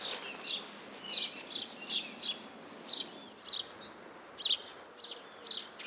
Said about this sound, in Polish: Jak sobie podejdziemy z kolei tutaj, ja dzisiaj w moim ogrodzie rodzinnym, mazurki się przekomarzają za mną, czyli wróble, bardziej dzikie, choć przy domu, z plamką charakterystyczną na policzku i trochę uboższym ćwierkaniem.